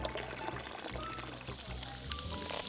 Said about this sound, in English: But these are not ordinary food pills, as you can see when we pour on a little water.